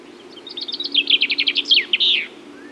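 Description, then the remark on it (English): A chaffinch sings one clear, loud phrase: a rapid run of bright notes that tumbles downward in pitch and ends in a brisk flourish, over a faint low hum. “Chaffinches are present all year round, and more than 6 million pairs breed here in summer. They have a loud, pleasant song.”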